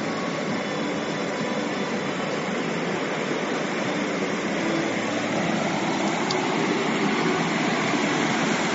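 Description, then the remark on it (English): A stream of flowing water in a rural area rushes steadily over a dip in the road that cars drive through, for the whole stretch, a dense, even hiss and roar with no pauses, voices or other sounds on top. “And so my sister sent me a text yesterday that had the stream.”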